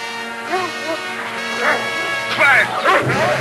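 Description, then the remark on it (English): A dog, Laddie, barks several times in quick, uneven bursts, loud, as a soldier grabs its collar, over a steady musical background that continues underneath. “Carl grabs Laddie's collar and the dog leaps down.”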